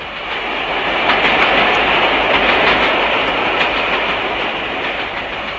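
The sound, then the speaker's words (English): A train rolls steadily along the track, its wheels clattering on the rails in a continuous, loud rumble with faint periodic clicks, heard from inside a carriage and with no voices. “Come on, we'll scour the train.”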